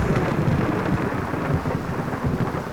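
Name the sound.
thunder rumbling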